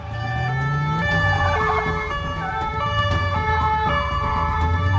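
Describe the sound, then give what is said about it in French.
Police car sirens wail loudly and continuously as police cars approach a villa, their rising and falling tones overlapping over a low rumble of engines. No one speaks. “Des voitures de police approchent de leur villa.”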